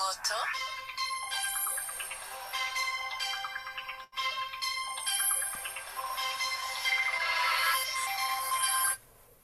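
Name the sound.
mobile phone ringtone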